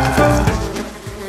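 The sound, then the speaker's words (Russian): A swarm of wasps buzzes loudly, a dense, steady drone of overlapping wingbeats that holds for about a second and a half with no voices. “Жужжали усы, налетая на волчьи носы и усердно работая жалами.”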